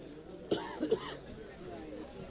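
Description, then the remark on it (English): A sharp cough bursts out, followed by a couple of shorter throaty rasps, then a low, quiet background hum returns. “Where's the cough button?”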